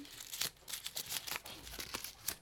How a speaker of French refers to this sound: Quelques minutes plus tard, elle reçoit un bout de papier qu'elle hésite à ouvrir. Elle se décide à regarder et lit.